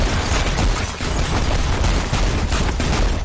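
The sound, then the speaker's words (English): A loud, dense volley of gunfire, shots overlapping in rapid bursts for a few seconds without pause, harsh, with no voices heard. “We're shooting.”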